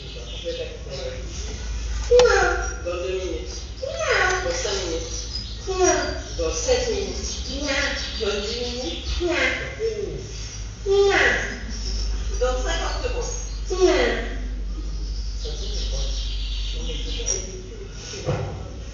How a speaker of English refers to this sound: With, as an example, bird songs that were mistaken for female voice.